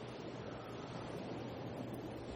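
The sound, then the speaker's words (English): Steady, continuous rush of ocean waves washing in a soft, even wash with no distinct breaks, fairly quiet and unaccompanied by any voices. “In the sound of the water, we'll get the energy work started for you.”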